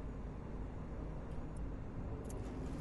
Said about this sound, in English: The car is to my right, I think.